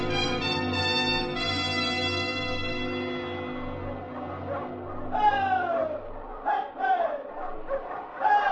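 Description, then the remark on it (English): A sled dog team, its lead dog a big husky with a white star, barking and howling: long, overlapping drawn-out cries give way to a run of sharper yips and barks, steady in volume. “You look dog team. Lead dog. Marco's dog.”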